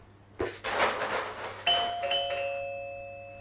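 doorbell ringing

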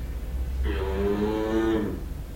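cow mooing

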